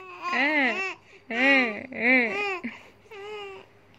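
A baby cries in four rising-and-falling wails, the last one softer, with short pauses between them and a faint low hum underneath; the crying was saved as voice notes and used as the melody of a song.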